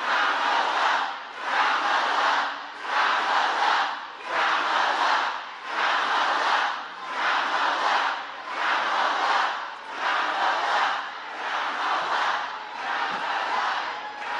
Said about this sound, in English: Now, her crowd's shouting her name in this cult worship, the Kamala cult, but it's going to go south here pretty quick.